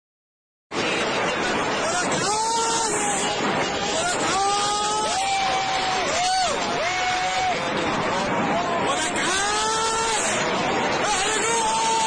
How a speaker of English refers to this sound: These sets of rockets being fired off and people celebrating and cheering.